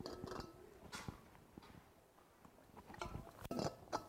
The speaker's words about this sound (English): So, let me just take a sip. My mouth is so dry.